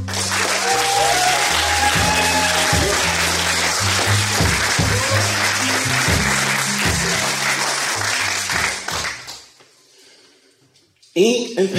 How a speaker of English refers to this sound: Y'all clap your hands